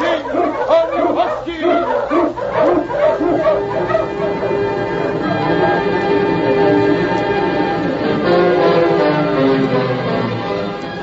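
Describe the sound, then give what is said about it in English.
A pack of husky sled dogs barks and yips excitedly, with sharp overlapping yelps in the first few seconds that blend into a steady, continuous din of howling and barking. “All right, hold, you huskies, hold!”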